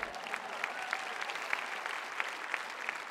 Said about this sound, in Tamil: நீங்க கைத்தட்டுறதை வச்சே என்னால அதை சொல்லிட முடியும்.